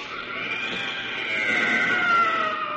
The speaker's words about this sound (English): As an inhuman bubbling cry, and the tentacles slowly relax their grip, the blue one is no more.